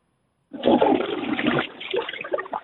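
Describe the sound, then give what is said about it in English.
A toilet flushes a collar bracket away with a sudden loud rush of water that churns for about a second, then tapers into gurgling and swirling as the bowl drains. “That was my collar bracket going down the toilet.”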